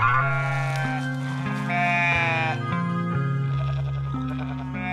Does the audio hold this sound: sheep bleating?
yes